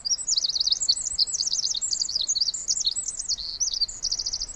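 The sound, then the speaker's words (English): A tiny wren, perched on a branch about 3 feet away in a forest, sings loudly, pouring out a rapid, continuous stream of high, bright trills and chattering notes that barely pause for breath. “Just then, a tiny wren flies down and lands on a branch about 3 feet away from us and just lets it all out.”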